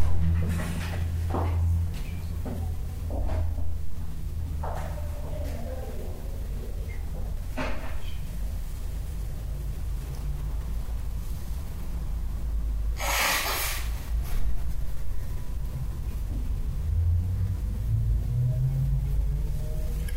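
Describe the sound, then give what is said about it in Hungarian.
A bus rumbles with a steady, heavy low drone that lasts throughout, broken by a brief burst of hiss midway and scattered knocks and clatter. “Elnézést kérek, ez a busz.”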